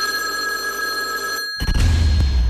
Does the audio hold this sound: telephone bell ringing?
yes